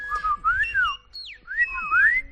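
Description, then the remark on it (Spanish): A Silbo Gomero-style whistled phrase saying "silba alto", with sliding, rising and falling tones, delivered in two fairly loud bursts with a brief pause between, over a low rumbling background. “Tú intenta decir silbando silba alto.”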